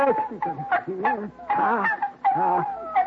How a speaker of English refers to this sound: What's that mewing sound, Al?